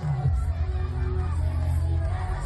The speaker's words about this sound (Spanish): ¡Esas palmas! Otro éxito rotundo, los más pequeños de Mérida se lo pasaron pipa con un fiestazo dedicado exclusivamente a ellos.